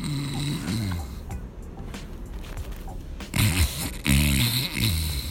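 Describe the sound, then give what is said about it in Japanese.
A voice imitates heavy, loud, thick snoring, heavier than an ordinary snore: a few rough, rattling snore sounds that grow louder toward the end. “普通のいびきってこんなんじゃないですか、うん、とかじゃないですか。これはもっとなんかデブいびきで、あ、違うな、違うな。”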